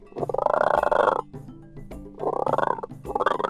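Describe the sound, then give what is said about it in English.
A frog croaks in three loud, raspy bursts: one long, drawn-out croak followed by two shorter ones in quick succession, with no talking. “The frog liked to sing, especially when there was a full moon. He would croak.”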